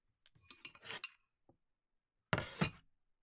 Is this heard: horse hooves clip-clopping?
no